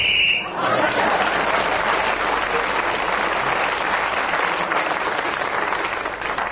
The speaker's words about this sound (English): So … was speaking then when the whistle went, gained that extra point.